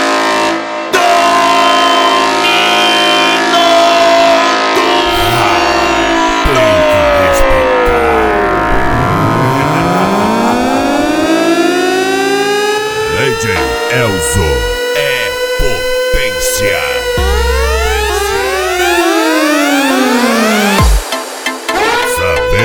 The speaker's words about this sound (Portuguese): LTS, a corneta do racha.